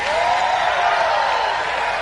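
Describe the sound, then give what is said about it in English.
A large crowd, asked to hold up their hands and scream, screams and cheers together in a dense, sustained roar that stays loud and steady throughout, with no single voice standing out. “Anybody righteous, hold your hand up and scream.”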